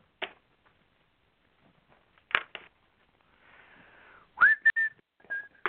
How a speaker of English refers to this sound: When I whistled, I heard a weird noise in my ear.